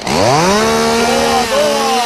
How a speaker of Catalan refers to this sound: Estos arbres ja no quedarien peu. Fot-li una mica de soroll amb la serra, ara, fot-li.